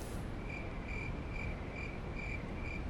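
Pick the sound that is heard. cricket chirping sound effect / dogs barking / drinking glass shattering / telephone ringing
cricket chirping sound effect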